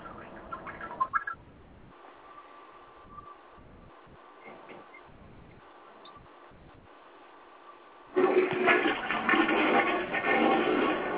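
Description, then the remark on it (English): Someone urinates into a toilet, heard over a phone line: a faint, uneven trickle for several seconds, then a loud, steady splashing stream that continues to the end. No one speaks. “Even more disturbing is I was able to hear myself pissing in an echo on the phone.”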